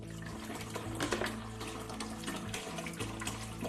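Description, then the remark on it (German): Sandy water pours steadily into an aquarium, a continuous splashing and gurgling stream with a low rumbling fill, no voices over it. “Stellt euch mal vor, das Aquarium ist das Meer und das hier ist der Fluss. Und im Flusswasser schwimmt der Sand mit.”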